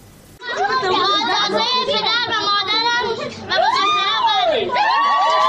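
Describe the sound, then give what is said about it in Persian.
A lively crowd at a wedding celebration cheers and shouts, with many overlapping high voices whooping and calling out loudly and continuously, close by and filling the whole scene. “جشن ازدواج دختری که گفته می شود 14 سال سن دارد.”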